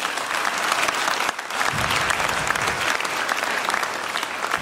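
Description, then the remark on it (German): An audience claps steadily, a dense wash of many hands forming a continuous crackle that stays loud and even throughout, with a brief dip near the start and no voices standing out. “Vielen Dank, nochmal Applaus für euch.”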